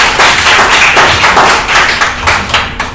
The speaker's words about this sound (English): So let's give our hand a round of applause.